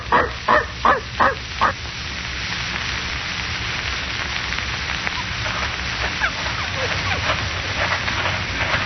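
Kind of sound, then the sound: animal, dog barking and whimpering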